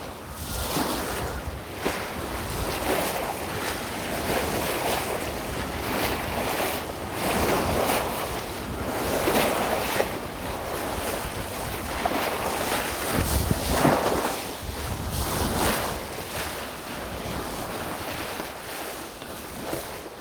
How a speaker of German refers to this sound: kräftig spürbar irgendwie der Wind und die Wellen. Und es war relativ laut und es war cool.